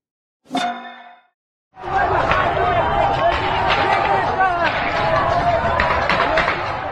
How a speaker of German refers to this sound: Ja, das waren Schüsse. In einem Video auf Instagram sieht man IranerInnen, die gegen das Mullah-Regime protestieren. Im Hintergrund hört man, wie geschossen wird.